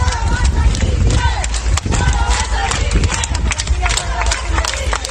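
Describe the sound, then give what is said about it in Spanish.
National and local police clap steadily and continuously for health workers at a regional hospital, dense overlapping applause filling the whole stretch, loud, with scattered voices and shouts mixed into the noise. “Policías nacionales y locales se acercan a un hospital comarcal para aplaudir al personal sanitario y estos le gritan: todo va a salir bien.”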